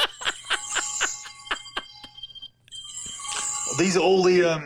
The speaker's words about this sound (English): Hold on, I just got a message. I was gonna say that's a ringtone, isn't it? Because I have that too.